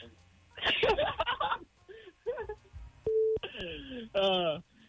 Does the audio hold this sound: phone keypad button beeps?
yes